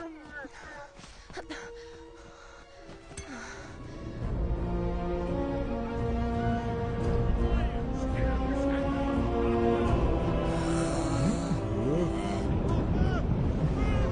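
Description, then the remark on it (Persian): A deep, rumbling underwater churn of very large bubbles from the huge lungs of something living in frozen waters builds after a few seconds and stays loud and steady, with warbling tonal sounds and muffled voices mixed through it. “این چه خبره؟ حبابای خیلی بزرگ، یعنی ششای خیلی بزرگ که تو آبای منجمد زندگی میکنه.”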